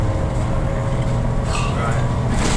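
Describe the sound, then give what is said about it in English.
Steady, loud low rumble of a bus engine and road noise inside a moving bus passing through an industrial estate, holding constant throughout with a faint higher whine and muffled sounds over it. “So we're on a bus, this can probably hear.”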